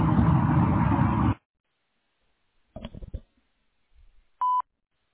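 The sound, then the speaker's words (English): A single short, steady electronic beep at a mid pitch sounds on its own near the end, following a stretch of loud hiss and a brief burst of clattering noise; it is the voicemail recording beep on the answering message of Bowder Air Energy Efficiency Services. “To leave an appointment for a HERS test or an air balance, please do so after the beep.”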